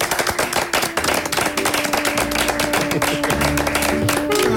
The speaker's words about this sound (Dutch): Zullen we afsluiten met een klap dan? Ja, een applausje. Goed jongens. Applausje jongens.